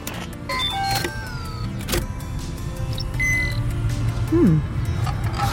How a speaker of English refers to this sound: That is the best sounding engine this side of... No, this is the best sounding engine.